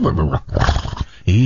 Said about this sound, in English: I'll play a quick scene from Mustang. I mean, it's just what you'd expect. Here he is trying to tame a horse.